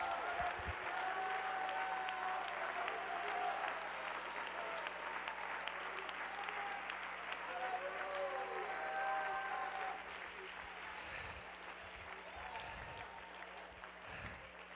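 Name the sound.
audience clapping and shouting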